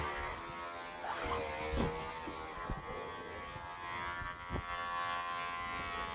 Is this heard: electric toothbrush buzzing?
yes